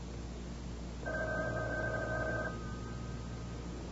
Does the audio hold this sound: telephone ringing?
yes